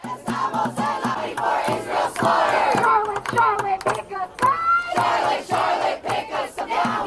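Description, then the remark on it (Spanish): A large No Kings protest crowd against Trump chants loudly in a street in the United States, many voices shouting together in strong rhythmic bursts that rise and fall without a break for several seconds. “Este ha sido el grito de guerra en la calle este fin de semana.”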